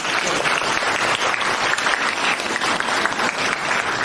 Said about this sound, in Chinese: 鼓掌